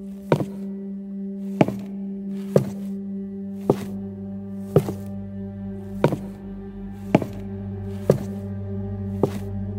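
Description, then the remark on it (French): Footsteps on the floor above in an old house, heard as nine or so muffled thuds at a steady walking pace of about one per second, over a constant low hum, with no voices. “Et à ce moment-là, on entend des bruits de pas en haut.”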